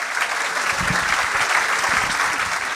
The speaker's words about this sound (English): Can I have a little quick round of applause for our excellent volunteers?